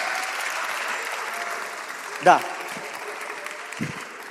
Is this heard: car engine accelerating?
no